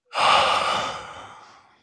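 A single loud, raspy asthmatic-sounding breath: a long, airy, wheezing exhale that starts abruptly and slowly fades out over about two seconds, with no one talking.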